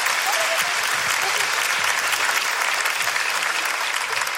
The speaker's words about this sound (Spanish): Un fuerte aplauso para mi amiga, por favor. Gracias.